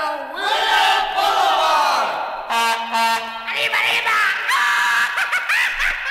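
A loud, high, wavering celebratory yell rings out over a crowd-like din, followed by more whooping cries and shouts, close and energetic.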